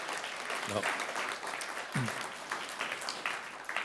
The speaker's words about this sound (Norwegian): Kom igjen og gi en applaus for Jesus. Ja.